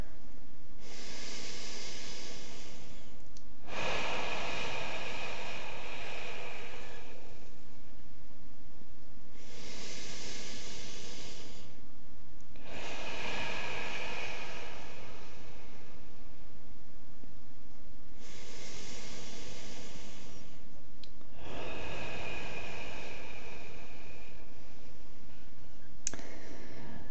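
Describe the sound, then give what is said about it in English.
Slow, deep breaths drawn in and let out in a steady rhythm, about three full cycles, each a loud, airy rush with quiet pauses between and no talking. “And we'll just breathe.”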